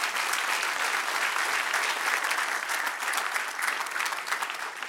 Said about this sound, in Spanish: Dale otro aplauso al que vive Israel.